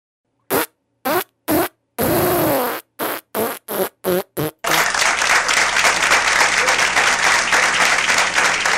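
A rapid series of short, loud fart bursts in a farting contest, one drawn out longer than the rest, followed by sustained applause filling the remaining seconds.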